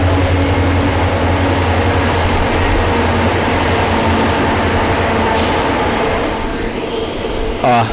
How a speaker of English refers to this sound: That's a freight train going through, which is okay. It's pretty depressing to see coal trains going through because you go, oh, there's a global warming express.